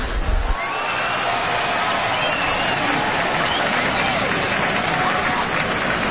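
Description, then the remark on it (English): A large baseball stadium crowd at Nationals Park in Washington applauds and cheers as the team's principal owner is introduced, in a steady, continuous roar that holds at an even level from start to finish, with no clear individual voices standing out. “Now, that's a pretty friendly crowd, sounds like, doesn't it? And they've already given a nice little ovation to the manager.”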